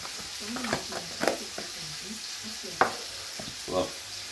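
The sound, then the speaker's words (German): Meat is seared hard on both sides in a hot pan with a steady sizzling hiss, broken by sharp pops and crackles and a few faint clinks, with no voices. “Das muss nur scharf angebraten werden von beiden Seiten und danach kocht sich sehr im Backofen ein.”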